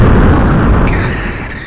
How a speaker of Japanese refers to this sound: そのさ、爆発の音さ、カオスフレアの爆発音にしたら。